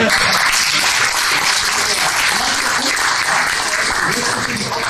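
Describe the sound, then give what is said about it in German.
Loud, sustained applause from an audience fills the whole stretch, a dense crackle of many hands clapping with faint murmuring voices mixed underneath. “Applaus!”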